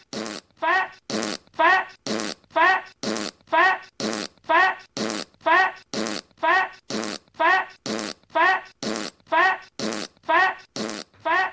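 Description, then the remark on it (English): A looping alarm built from fart sound effects, with about eighteen loud, evenly spaced bursts repeating in a steady rhythm, each a brassy, buzzy blast separated by short gaps of silence. “That's the fat fart alarm”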